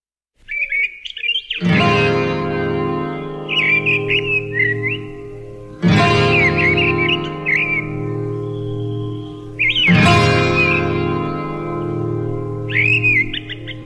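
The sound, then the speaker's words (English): An old pop recording of a world hit plays: three swelling, sustained instrumental chords, each followed by bright bird-like whistled chirps fluttering high above. No voices, fairly loud throughout. “Meghallgatjuk akkor ezt a világslágert.”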